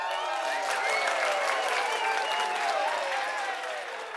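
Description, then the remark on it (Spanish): An applause sound effect inserted by the show's producer: steady, dense applause for about four seconds, a continuous loud wash of clapping with faint crowd cheers and whoops threaded through it, tapering slightly at the very end. “Así es que un aplauso y Mau inserta aplausos aquí mismo.”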